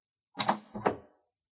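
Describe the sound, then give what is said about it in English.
A room door opens as someone from outside the room comes in: two quick clunking sounds, a latch click followed by a short creaky swing, then quiet. No one speaks. “There's someone outside the room. The door's opening.”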